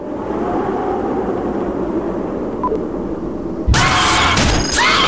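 A metro train rumbles steadily along the rails, then abruptly turns louder and harsher with a bright, hissing metallic roar. No one speaks.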